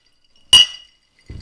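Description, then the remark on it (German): A single bright clink of two glasses touched together in a toast, ringing briefly before it fades, fairly loud. A soft low thump follows a moment later. “Stößchen?”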